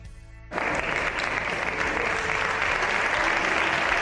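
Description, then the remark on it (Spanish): Sustained applause from PSOE and Podemos members in Spain's Congress as Pedro Sánchez enters, cheering the aid agreement reached in Europe: after a quieter half-second, many hands clap together in a dense, steady roar that stays loud to the end, with a faint murmur of voices underneath. “Estos son los aplausos que ha recibido por parte de PSOE y de Podemos Sánchez al entrar en el Congreso.”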